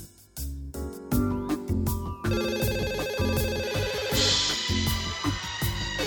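A phone rings with a loud, busy melodic ringtone that plays continuously for several seconds, with a steady beat and layered tones and no one talking.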